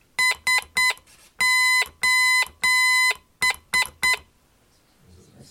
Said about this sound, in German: So, also das ist eine Morse-Taste, die macht einen Ton. Ja, ich versuche mal ein Zeichen, das kennen wahrscheinlich alle.